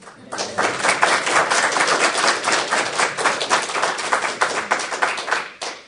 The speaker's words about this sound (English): I'm wondering if we could clap for an exceptional job.